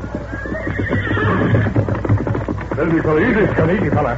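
A horse whinnies loudly while rapid hoofbeats gallop underneath in a steady, driving rhythm as the horses Scout and Silver dash across a level stretch toward a crowd of men, the clatter continuing throughout.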